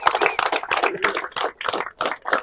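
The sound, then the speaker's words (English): An audience applauds after a speech, a dense wash of clapping that surges and dips in short waves without clearly dying away. No one speaks over it. “As the applause faded and more people came up for photos, questions, or expressions of gratitude”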